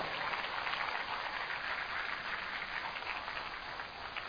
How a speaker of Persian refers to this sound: بارون تون شد، سه انگشتی تگرگ، چهار انگشتی رگبار باران. تشویق کنین خودتونو.